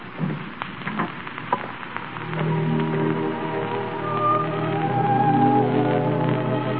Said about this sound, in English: It's raining awfully hard.